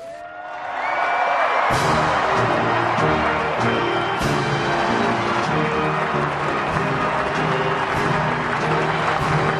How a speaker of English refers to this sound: The President-elect, with his standard thumbs up, receiving applause from the former President, Jimmy Carter, George W. Bush, Bill Clinton, and the soon-to-be former president, Barack Obama, makes his way down the steps.